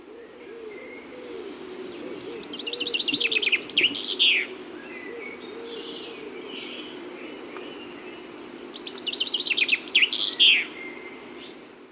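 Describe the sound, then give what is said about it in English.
A chaffinch sings two bright, rattling song phrases that speed up and end in a quick flourish, separated by a pause, over a low steady background hum and faint outdoor ambience. “The chaffinch is also known as the bachelor finch.”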